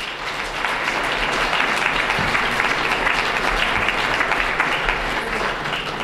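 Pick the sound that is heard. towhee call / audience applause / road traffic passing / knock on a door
audience applause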